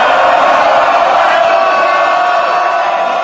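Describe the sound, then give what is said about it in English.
A packed parliament chamber erupts in loud, continuous shouting and jeering as both sides shout at each other at the end of an exchange between Keir Starmer and Boris Johnson, many voices overlapping in a dense roar that holds steady for a few seconds. “So there's an enormous kind of shouts, jeer, you know, they're both sides shouting at each other at the end there,”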